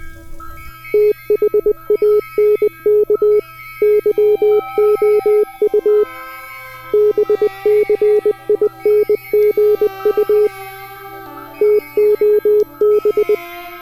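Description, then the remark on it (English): Loud electronic beeps in rapid clusters, four bursts of quick chirping tones separated by short pauses, over a steady low electronic hum, with no talking. “And then the beeps start up.”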